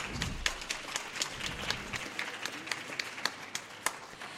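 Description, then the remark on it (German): An audience applauds, a dense patter of many hands clapping with a few sharper, louder claps standing out, steady for a few seconds with no one speaking. “Erstmal ein Applaus.”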